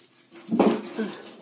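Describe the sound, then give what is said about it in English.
A dog whimpers and lets out a couple of short, high yips, with a louder burst in the middle followed by a softer whine that trails off. “Sorry, animals going crazy over here.”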